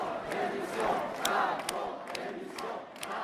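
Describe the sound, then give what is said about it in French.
A large crowd chants together in a loud, steady roar of voices, punctuated by sharp, rhythmic bursts like claps or shouts every half second or so. “Il y a eu comme ça une sorte de pulsion de chant, indiquant par ce chant que nous sommes là.”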